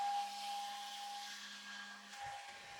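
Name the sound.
hair dryer running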